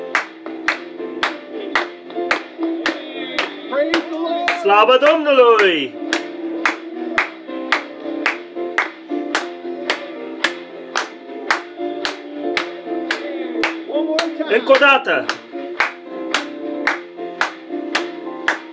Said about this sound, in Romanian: Să o aplaudăm lui!